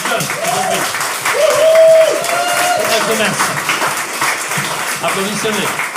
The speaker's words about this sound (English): Let's give a hand clap to the young generation.